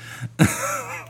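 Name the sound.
throat clearing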